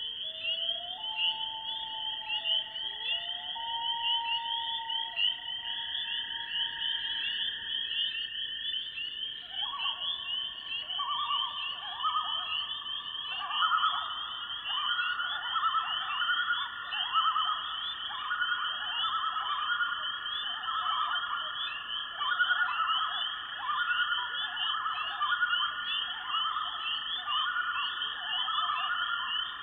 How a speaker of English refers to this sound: to the boundary waters of Minnesota, where a pair of common loons returns to breed and raise their young. Spring peepers sing for mates.